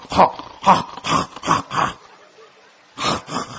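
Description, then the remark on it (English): A person imitates an angry monkey with loud, yelping shrieks: five quick bursts in a row, a short pause, then two more. “No, the monkey goes,”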